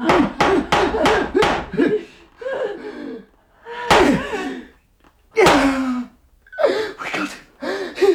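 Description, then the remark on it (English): A quick run of about five heavy hammer blows driving a wooden peg into a hole, followed by a few more scattered thuds and strained vocal gasps and cries. “Oh, let me get the peg past your fingers. All right. Take your fingers away. Don't let it out. Don't let it out. Don't let it out. All right. Done. Hammer.”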